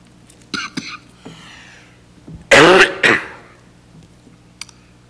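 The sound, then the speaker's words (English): A pastor clears their throat a few times, then coughs hard in two loud bursts, with short quiet gaps between them and no speech. “Like a pastor who can't stop coughing.”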